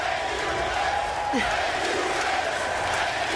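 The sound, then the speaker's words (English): A large WWE arena crowd of mostly young teenagers roars and cheers steadily throughout, a dense, sustained wall of voices with faint whoops rising out of the noise and no break in the sound, as Stephanie McMahon announces Vince McMahon's retirement. “I mean, not shocking to think that the crowd of mostly 16, 14, and 12-year-olds has no idea what the allegations are and what they really mean and the gravity of them.”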